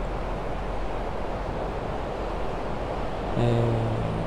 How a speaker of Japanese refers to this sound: 今、家の近くの海に来ていて、結構風が強いんで波の音も大きいんですけど、